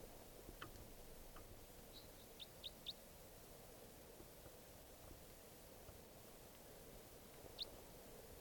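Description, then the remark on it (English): Wild red crossbill type 4 calls: short, sharp, high kip notes, a quick run of about four and then a lone note later, over a steady low background rumble with no talking. “Crossbill here, wild type 4.”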